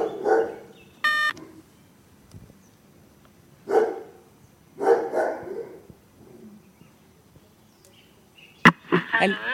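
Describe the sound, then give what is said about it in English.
Dogs bark in a yard in short, irregular bursts with pauses between them, moderately loud. A brief electronic beep sounds early on, and the final barks come quickly together. “But since the dogs... Then they'll bark and then we'll be aware that there is something happening in the yard.”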